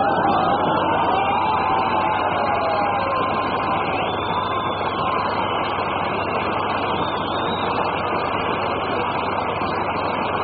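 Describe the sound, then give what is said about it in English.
A crowd applauds and cheers steadily for about ten seconds as a lady guest is welcomed, a loud dense wash of clapping with a few high whistles and whoops rising over it. No speech. “Believe me, missus, you wouldn't have got much more applause if you'd have been well known.”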